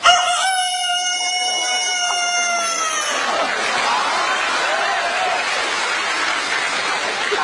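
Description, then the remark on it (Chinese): A person imitates a rooster's crow in a Chinese crosstalk (xiangsheng) performance, with one loud, drawn-out call lasting about three seconds, then a steady wash of audience noise, like applause, fills the rest. “学一个大公鸡 啊， 大公鸡有特点 啊， 走起路来非常的稳，眼睛呢总是瞪得大大 啊， 脖子特别的灵活。”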